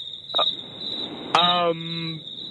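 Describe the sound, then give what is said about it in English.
A recording of crickets played on the radio: crickets chirp in a steady, high-pitched trill that runs unbroken through the whole stretch, while a person's voice briefly sounds over it partway through. “Do you know we were playing crickets?”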